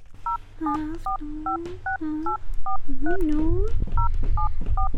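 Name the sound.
telephone number being dialed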